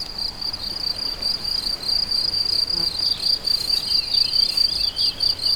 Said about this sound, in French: Beaucoup de grillons, d'insectes. Le chant des oiseaux diffus.